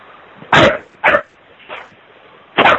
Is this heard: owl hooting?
no